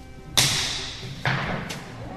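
Hits from a game of tejo, Colombia's national sport: a heavy metal puck smacks into a clay target, then another sharp impact follows, with a fainter third crack soon after; loud hits with short ringing decays over faint background murmur.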